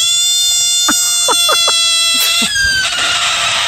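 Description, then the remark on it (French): A frog cries out in a quick series of four or five short, raspy croaks, fairly loud, over a steady high-pitched tonal drone that runs through the whole moment. “Non, c'était la grenouille.”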